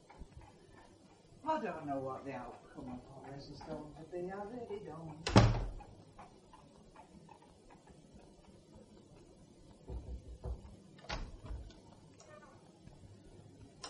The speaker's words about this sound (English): No one here. And the door unlocked.